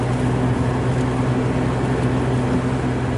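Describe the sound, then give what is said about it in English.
A double-stack freight train rolls slowly past in a steady, unbroken rumble, with low droning hums running underneath a broad wash of noise. The level stays even throughout, and no one speaks. “And now the train is slowly passing like the van.”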